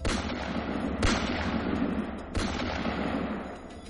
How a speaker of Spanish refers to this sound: Bien, entre los asistentes al convite está uno de los tantos sobrinos del rey, el príncipe Faisal bin Musaid. poco a poco se acerca a saludar a su tío. Estando a unos palmos de él, sin mediación, le dispara hasta en 3 ocasiones.